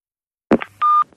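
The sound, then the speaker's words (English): A click-like thump followed by a short electronic tone, then a steady, clear beep lasting about a fifth of a second and the start of another tone, from a company answering machine, fairly loud with no voices. “A message on a company answer phone.”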